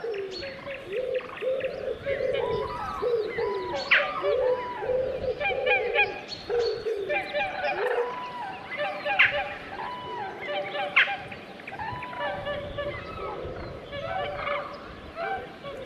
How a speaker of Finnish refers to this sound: Siinä on hyvä yhdistelmä, sepelkyyhkyy ja joutsenia ja Naakkakin vielä ja kurkia. Ja kurjethan itse asiassa käveli tässä meidän oikealla puolella ihan lähellä ja joutsenet oli tuolla vedessä. Joutsen pariskunta.